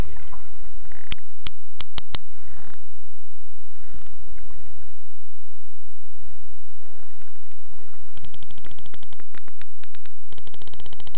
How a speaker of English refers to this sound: The sperm whale makes this clicking sound by pushing air through the space in its big hollow head.